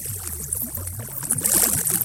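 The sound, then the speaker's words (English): Sonified magnetic waves between sun and earth, their frequencies sped up and converted into sound: wavering, squiggly tones rising and falling over a steady airy whoosh of static, swelling slightly louder toward the end, with no voices. “So all those whooshes and squiggles, the music of sun and earth, can be heard by you and me and everyone.”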